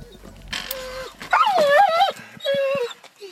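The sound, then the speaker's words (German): A nearly four-year-old Belgian shepherd police dog whimpers and whines in high, wavering cries as it waits nervously in its crate in a car at a police dog championship in Lüterkofen, canton of Solothurn, Switzerland. Three drawn-out bursts come over a few seconds, with no one speaking. “ist ein knapp vierjähriger belgischer Schäfer”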